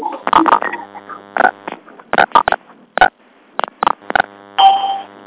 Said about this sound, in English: So for those of you that have me on a speakerphone or a cell phone, here's what I'll ask you to do, and only those folks, is hit star 6 on your keypad. Do it once. Do it now.